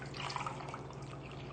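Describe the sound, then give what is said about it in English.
Two cups of pure water pour in a steady stream into a blender jar already holding cashews, a continuous splashing hiss with a faint low hum beneath it, fairly quiet and unbroken for a moment with no talking. “Okay, and how much water? 2 cups of pure water.”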